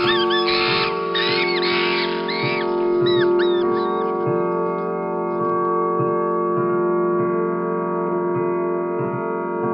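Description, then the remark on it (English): A clock in a corner ticks at a steady, unhurried pace beneath a loud sustained tonal hum, with bright chirping sounds fluttering over it during the first few seconds. “will you all stop staring at that damned clock in the corner?”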